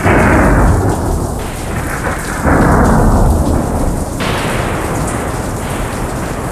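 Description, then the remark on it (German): Heavy rain pours steadily and grows stronger while deep, loud rumbles of thunder roll through, with a sharper crack-like surge partway through; no voices are heard. “der Regen wird stärker in Gräse. Ui, also schrecklich. Es kracht”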